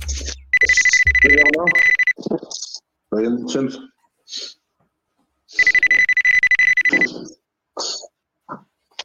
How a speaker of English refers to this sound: I think my something's beeping. Oh, wait, Cupcake is calling.